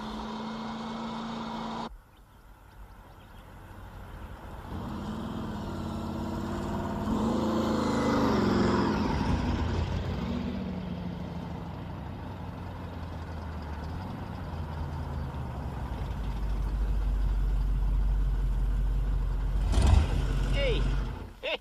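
A supercharged 1957 two-door car engine rumbles loudly, its pitch swelling upward in a couple of revs midway before settling into a deep, steady idle with a heavier low roar toward the end.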